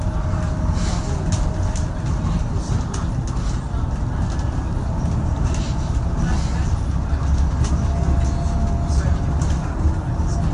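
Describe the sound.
Steady engine rumble and road noise fill a moving bus, a constant low drone with faint rattles and clicks, while a voice murmurs underneath throughout.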